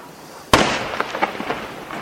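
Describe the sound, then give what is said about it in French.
A sharp, loud firework blast rings out, followed by a fading tail of scattered crackling pops like firecrackers going off in quick, irregular succession. “C'est bizarre, des pétards, des plus en plus gros.”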